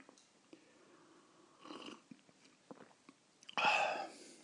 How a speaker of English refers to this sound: Actually, I think there's, before I finish the audiobook, I really must offer you the sound of the first sip of the cup.